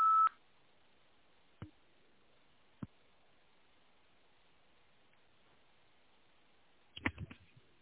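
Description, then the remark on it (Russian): A single steady electronic beep, the voicemail signal after an unanswered phone call, opens, followed by a couple of faint isolated clicks and then a brief burst of handling noise and rustling near the end. “Вы можете оставить для него голосовое сообщение после сигнала.”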